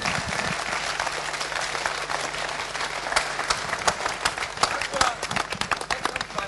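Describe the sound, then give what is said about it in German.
Dense, steady applause from an audience for the club president, a continuous wash of many hands clapping at full volume for several seconds, with a low hum running underneath. “Und da einen großen Applaus für unseren Präsidenten,”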